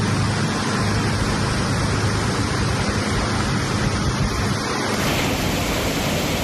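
In the morning, strong wind from storm Ivo lashes the large trees of the Alameda and along the Sar river at Fervenza de Conxo. It is a steady, loud, hissing rush that barely lets up, shifting slightly in tone near the end. No voices are heard.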